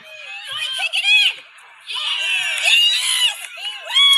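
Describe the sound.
A parent screams and cheers at a game in long, shrill, high-pitched bursts with one brief pause, loud over a background of other excited voices.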